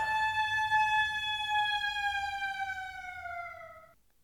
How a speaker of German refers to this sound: Nur eine Sirene probt den Ernstfall.